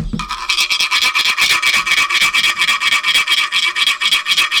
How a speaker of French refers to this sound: Je me brosse les dents.